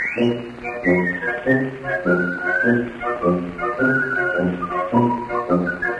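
A clear whistled tune glides and trills above a bouncy, steady orchestral accompaniment, with a slightly muffled, old-fashioned recording quality and no voices.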